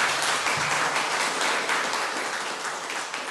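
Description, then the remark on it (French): Sustained applause from an audience at the Polars du Chat round table at the Château de la Verrerie in Le Creusot, France, for authors Lorraine Schneider and Sandrine Collette: a dense wash of many hands clapping steadily at a fairly loud level, easing off slightly toward the end, with no voices over it. “Merci, vous pouvez les applaudir.”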